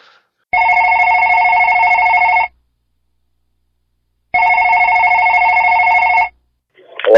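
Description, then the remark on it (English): Two long ringback tones on an outgoing call placed from a cell phone to Kentucky, each about two seconds of steady buzzing purr with a pause between, the sound of a phone ringing on the line. A voice starts just as the second ring fades. “We got to call him on a cell phone.”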